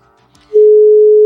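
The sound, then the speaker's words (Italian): A loud, steady single-pitch ringback tone starts abruptly after a brief quiet moment and holds unbroken to the end, the sound of an outgoing WhatsApp call to an Italian number ringing. “A squillare squilla bene.”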